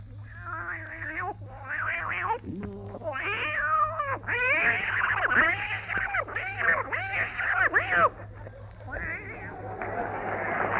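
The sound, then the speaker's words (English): A voice imitates two cats fighting, trading rising and falling yowls and drawn-out meows in rapid succession, loud and wavering, with a steady low hum underneath. “A couple of cats fighting.”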